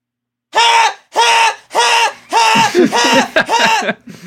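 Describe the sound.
A voice imitates a colleague's old blaring alarm clock with a rapid series of about seven loud, harsh, buzzy vocal blasts in a steady rhythm, the later ones shorter and wavering.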